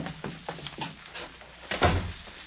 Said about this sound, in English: just close the door, will you please? We'll be waiting.